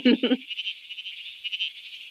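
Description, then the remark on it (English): A tiny bleating froglet gives a rapid, quavering bleat like a sheep, with two louder pulses at the start trailing into a long, buzzy, insect-like trill at a steady volume. “It's the bleating froglet. This is a tiny little frog, and it calls and sounds a lot like a sheep.”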